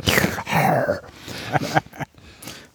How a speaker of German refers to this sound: Ich bin ganz kurz irritiert, weil wir hier so einen Darth Vader Sound in der Leitung haben. Sag mal, bist du irgendwie über deinem Glas eingeschlafen oder was hier schnauft irgendwas?